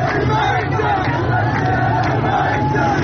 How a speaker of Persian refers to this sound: تظاهرات و اعتراضات نسبت به بحران آب در خوزستان همچنان ادامه دارد. اعتراضاتی که از شامگاه پنجشنبه شدت گرفته و تا کنون به بیش از 17 شهر این استان گسترده شده. معترضانی تشنه و جان به لب آمده که به خیابانها آمدند و تشنگی را فریاد می زنند.